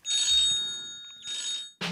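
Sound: mobile phone ringing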